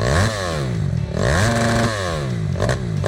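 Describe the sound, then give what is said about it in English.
A motorbike engine revs loudly, its pitch climbing and falling in repeated surges over a constant roaring drone, with no voices. “It's a motorbike, in case that wasn't clear.”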